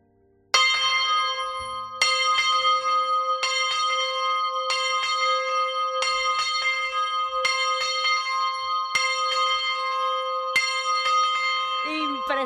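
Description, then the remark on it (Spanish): The Santa Eugenia church bell, rung by a 27-year-old bell ringer, rings loudly, struck repeatedly at a steady pace roughly every second and a half, each strike layering its long ringing overtones over the last. “Bueno, ya nos queda simplemente ese sonido gordo y fuerte que nos prometió antes, y saber que en esto de los campaneros hay futuro, que nuestro campanero tiene 27 años.”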